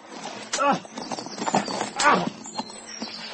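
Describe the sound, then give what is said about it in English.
Horses charge with a rush of hoofbeats, and two loud, descending whinnies cut through the clatter. There is no clear talking, just the galloping animals. “snatched a pistol from his holster, and, gripping his horse's bridle between his teeth, charged down upon us at the top of his speed.”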